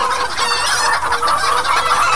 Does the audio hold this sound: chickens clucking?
yes